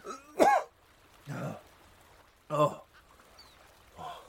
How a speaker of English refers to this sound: He tried to speak, but was interrupted by a fit of violent coughing that caused his whole body to jerk and shudder.